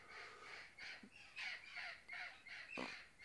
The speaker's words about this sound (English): Those are the wild parrots. Those are wild parrots. Yeah. So I don't know if y'all heard, but I got wild parrots that live in my neighborhood.